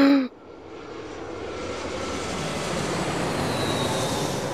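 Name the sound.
airplane engine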